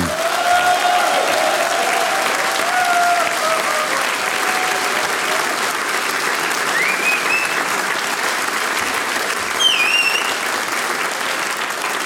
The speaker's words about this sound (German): Liebe Hörerinnen und Hörer, wir sind da ja am 19. Juni am Frontleichnamstag zu Gast gewesen, müssen wir jetzt schon sagen, und da ist bummvoll. Und das beweist unser Publikum da jetzt noch einmal mit einem Riesenapplaus aus Tannhausen.